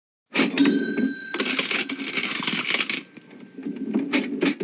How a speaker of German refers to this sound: Okay, also das hört sich für mich nach einer Kasse an, nach einer alten Kasse im Tante-Emma-Laden.